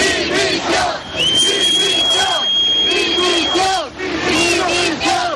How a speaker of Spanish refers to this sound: Lo estás escuchando, los toques, el himno, las marchas militares, también los aviones y las salvas de honor, pero que como una tradición más este año volvemos a sumar los abucheos.